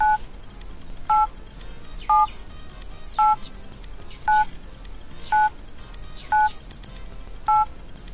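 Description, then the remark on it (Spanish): Eight short keypad beeps as Ángel Expósito's daughter dials a number on a mobile phone, each a two-tone DTMF chirp spaced about a second apart, steady and clear over a faint background hiss. “Y esta sería su hija marcando el móvil.”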